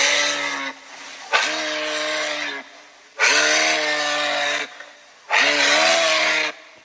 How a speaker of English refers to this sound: Is it a buffalo? It's not a buffalo, it's a moose. That was hard though.